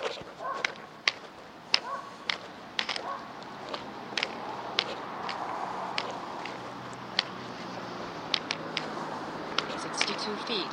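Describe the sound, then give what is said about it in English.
Dogs bark in sharp, short bursts at a passerby walking by, a dozen or so barks spread irregularly over several seconds, ringing out fairly loud above a steady outdoor background hum. “I walk by those same dogs several times a week, and I get the same reception each time.”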